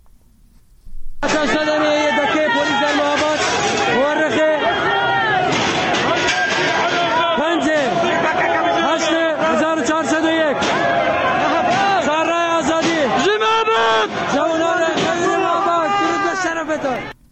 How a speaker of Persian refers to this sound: بنابراین تصاویر، معترضان با وجود شنیده شدن تیراندازی‌های شدید ساختمان فرمانداری را محاصره کرده و شعارهای ضد حکومتی سر می‌دهند.